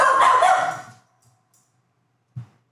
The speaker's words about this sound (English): The dog's upset about that too.